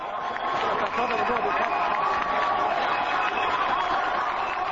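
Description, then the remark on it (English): A crowd of about 200 demonstrators on the steps of the journalist syndicate cheers and applauds as protesting judges in ceremonial red sashes arrive, a dense, sustained roar, clapping and shouting blending together loudly and steadily throughout, with voices audible in the mix. “The judges' protest might have been silent, but the crowd of 200 other demonstrators erupted into cheers and wild applause when the judges arrived.”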